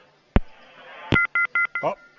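A couple of sharp clicks, then four short phone keypad tones beep in quick, even succession, clear, ending in a brief warbling blip, as a phone call drops.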